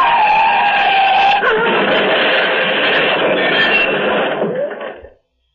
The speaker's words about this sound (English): The car has crushed against one of the cylindrical bridge supports, rammed against it head on.